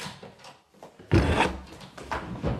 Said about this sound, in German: Als ich die Bürotür aufmachte, fiel Volontär Justus vor Schreck fast vom Stuhl. Von meinem Stuhl.